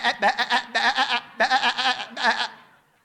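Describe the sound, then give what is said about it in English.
A human voice imitates a goat, letting out a series of quavering, wavering bleats in quick rhythmic pulses, fairly loud, before trailing off. “She's literally sounded like a goat.”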